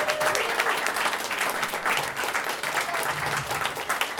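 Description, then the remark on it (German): Sustained applause from an audience fills the whole stretch, a dense, steady patter of many hands clapping, with no talking over it. “Einen herzlichen Dank, einen herzlichen Applaus.”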